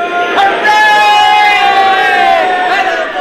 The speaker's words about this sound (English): What's all the cheering about? They're cheering. First round trip to the moon.